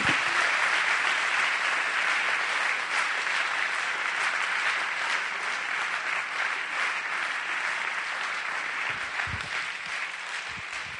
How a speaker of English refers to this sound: Would you lay your Bibles down, your iPads down, your iPhones down with that Bible app and just give the Lord a big, big hand to clap in the house?